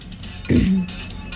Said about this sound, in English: I don't know why I'm coughing, but I'm going to say it anyways.